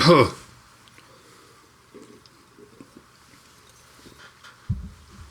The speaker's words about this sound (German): Oh, jetzt müssen wir das Wasser neu kippen, hier ist zu viel.